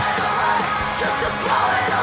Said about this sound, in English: That's her? Yeah. Interesting. She does got a cool like scream yell voice.